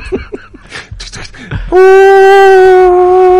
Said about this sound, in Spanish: Mira, oigo la sirena de un barco que nos llevará a Moscú. Por el río... volando. Por el río volando, pero oigo la sirena.